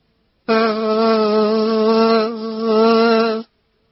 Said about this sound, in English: You can hear a bee.